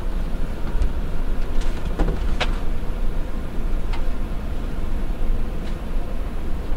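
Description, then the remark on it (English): A steady low rumble fills the interior of a moving passenger train's sleeper car, with scattered clicks and rattles breaking through now and then over the constant rolling noise. “A lot of distractions on this train.”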